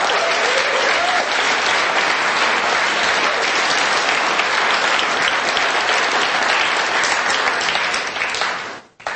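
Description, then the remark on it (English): Sustained audience applause, a dense, steady roar of many hands clapping at a loud, even level for several seconds before cutting off abruptly at the end. “Are the people clapping, not that aren't clapping, are y'all from the intelligence community?”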